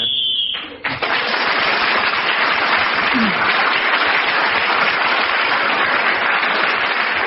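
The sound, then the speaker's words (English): A single steady, high-pitched whistle blast sounds for under a second, signalling that 60 seconds are up in a speaking round of a game, then is swallowed by loud, sustained applause that carries on to the end. “That whistle tells us that 60 seconds is up, and whoever is speaking when the 60 seconds is up gains another point.”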